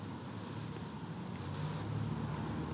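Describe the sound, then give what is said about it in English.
Steady wind rushes past with water lapping and churning around a boat on a wide expanse of water, a broad continuous outdoor wash of sound, fairly loud and unbroken, with no voices. “I look out now as I talk to you across a wide space of nothing but water and birds, ending in a line of green slopes with clumps of trees.”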